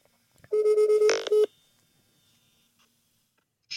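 A single telephone ringing tone of a call placed from Ellery Beach House sounds for about a second, steady and electronic with a brief buzzy burst near its end, then fades into near silence before another faint tone begins.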